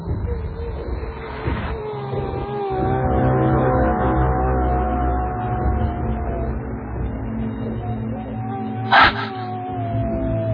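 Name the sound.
woman crying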